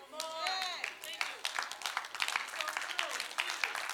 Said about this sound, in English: And everyone who just clapped, I'm sure your underground news source is the trusted one